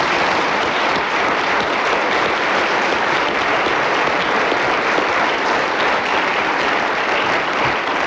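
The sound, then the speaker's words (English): A large audience applauds Kenneth Williams after he speaks on wizards until the whistle, a dense wash of clapping hands that stays loud and even throughout, with no voices breaking through. “So, Kenneth Williams kept going magnificently on the subject of wizards until the whistle went, and as the applause showed, they appreciated his brilliance, and he gained only 1 point in the process, I'm afraid.”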